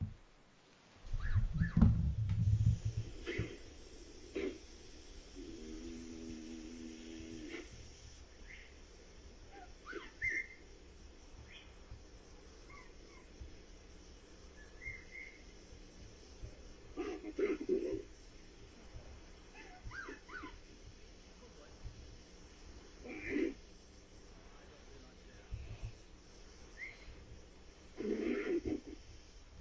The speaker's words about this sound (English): Anyway, you'll hear the whistle, but the whistle also turns into some vocalization.